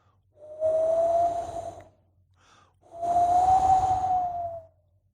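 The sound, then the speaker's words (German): Cold wind blows in two rushing gusts on an early, dark morning, each carrying a faint whistling tone, with a short lull between them. No light sleet can be picked out. “Man hört den kalten Wind und ein bisschen Schneeregen.”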